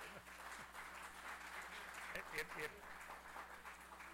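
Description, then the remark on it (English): Sustained applause from the audience at a council meeting after a public comment supporting an undergrounding project, a steady patter of many hands, with faint voices murmuring underneath throughout. “I certainly, the council certainly appreciates the enthusiasm and smiles in the audience, but if we could hold our applause till the end, that would be great, if perhaps not have any applause at all.”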